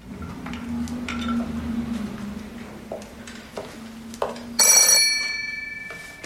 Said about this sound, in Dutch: Maar plots gaat de telefoon.